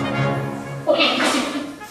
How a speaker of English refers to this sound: Okay, competition time. What do you think a majestic giant panda call sounds like?